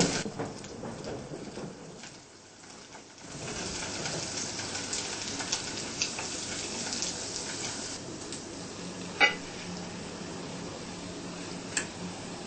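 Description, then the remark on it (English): Spring rolls sizzle steadily in hot oil, a dense crackling hiss that briefly dips near the start, with a couple of sharp pops standing out. No one speaks. “If we don't use too hot oil while we are frying, then the rolls will not be bubbling, just flat.”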